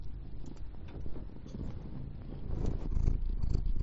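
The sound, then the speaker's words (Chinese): A cat purrs steadily, a low continuous rumble that swells slightly louder toward the end, with no talking over it. “干嘛呀，小猫？”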